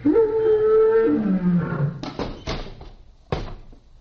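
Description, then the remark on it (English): A lion roars loudly for about two seconds as it opens its jaws, its pitch sliding downward, followed by three sharp knocking thuds spaced over the next second and a half. “Presenting JoJo the Fearless, who will stick his head into the lion's mouth. The lion is opening his jaws.”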